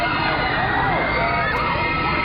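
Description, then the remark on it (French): A dense, loud crowd of fans at an autograph signing session screams and shrieks continuously, many high voices overlapping in a frenzied roar that never lets up. “Je vais vous faire écouter une foule en délire.”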